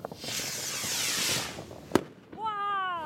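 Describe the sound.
A firework rocket launches with a long rising, hissing whoosh, then bursts in a single sharp bang. Moments later a person's voice speaks.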